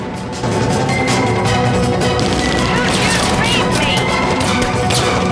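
Rapid gunfire from a large, cannon-like revolver cracks out during a shootout in a loud, continuous barrage, shots blending into a dense wall of sharp, crashing noise that stays intense throughout.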